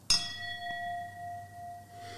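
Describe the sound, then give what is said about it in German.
A single bright clink of wine glasses touching in a toast during a wine tasting, followed by a clear, sustained ring that slowly fades over a couple of seconds. “Moment, ich nehme mal das Glas. Prost.”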